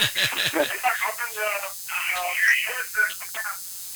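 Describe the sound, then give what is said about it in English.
Tinny, band-limited voices play from a phone or radio, a thin broadcast-like murmur over a low steady hum, continuing for several seconds at moderate volume. “do you have your phone or your radio on in the background?”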